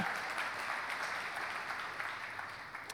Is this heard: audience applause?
yes